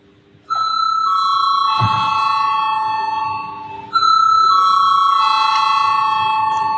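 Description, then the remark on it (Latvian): A parliament voting bell, called for by the chair before a vote, rings out as a steady, bright electronic tone with layered harmonics. It sounds in two long, loud stretches separated by a brief dip, with faint background murmur beneath. “Lūdzu zvanu.”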